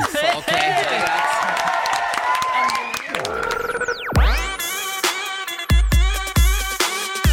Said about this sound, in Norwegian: Nei, men dere, jeg mener at denne konkurransen så gikk... den yngre garde av seieren. Applaus!